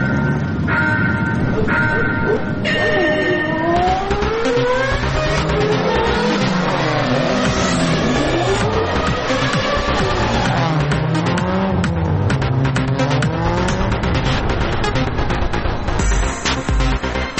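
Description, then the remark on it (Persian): Loud, continuous roar of racing car engines revving, pitches sweeping up and down as several cars accelerate and pass, with a dense mechanical wash throughout and no talking. “الان میخوایم بریم سراغ ایستگاه اتومبیل رانی و موتور سواری.”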